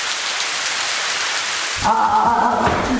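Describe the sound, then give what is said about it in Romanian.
Torrential rain pours down in a loud, dense, steady hiss, then gives way partway through to a deeper rumbling, tonal sound that continues to the end. “A început, în schimb, o ploaie torențială.”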